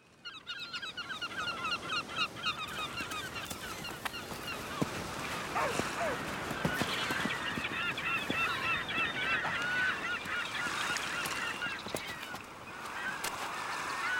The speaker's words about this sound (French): C'est la plage, bien sûr. On entend les vagues et les cris des mouettes.